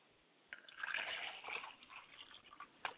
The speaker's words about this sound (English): I pour libations to the north and I say Ashe. I pour libations to the south and I say Ashe.